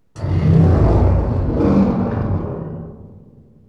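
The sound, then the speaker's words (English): A single loud, deep dinosaur roar bursts in suddenly, growling and rumbling for a few seconds before slowly fading away, with no talking. “Dinosaurs.”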